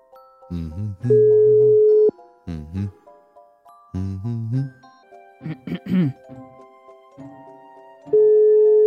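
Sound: phone call ringing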